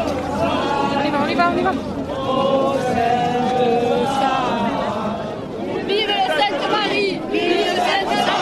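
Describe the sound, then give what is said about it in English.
A dense crowd of hundreds lining up on a beachfront, waiting for St. Sarah, chatters continuously, many overlapping voices blending into a steady, lively hubbub with occasional raised calls standing out above the babble. “There's crowds lining up on the beachfront, and there's hundreds of us, or hundreds of them, waiting for St. Sarah patiently.”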